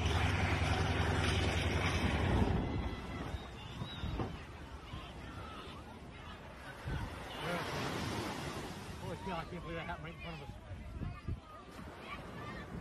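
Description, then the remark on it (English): Beach surf washes steadily under gusty wind noise at a Florida beach full of people during an air show, as a World War II airplane makes an emergency landing in the water just feet away, with indistinct voices of people mixed in; the roar is loudest in the first couple of seconds, then settles into a continuous rumble. “Had to make an emergency landing in the water, just feet away from a beach full of people.”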